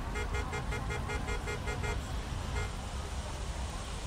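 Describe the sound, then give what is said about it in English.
Busy street traffic rumbles steadily while a vehicle horn honks in a quick run of repeated toots, then sounds once more before the steady roar of engines carries on. “My gallery scene dissolving back into the chaos of the street.”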